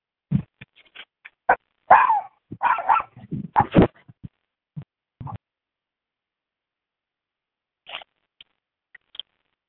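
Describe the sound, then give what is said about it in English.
A dog barks in a rapid, irregular flurry of short yips and woofs, loud, then falls quiet before a few faint scattered barks near the end. “Oh, doggy.”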